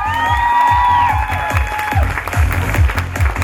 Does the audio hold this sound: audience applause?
yes